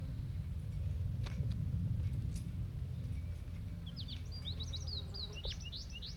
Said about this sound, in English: Stop. Start recording new birds, K3 and K4, along with 5-3.